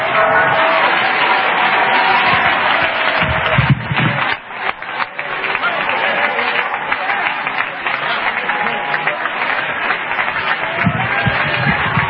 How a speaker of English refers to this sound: Oh, clap your hands and shout unto the Lord.